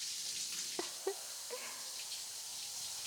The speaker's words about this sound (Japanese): もう少しシャワー強くしてみようね。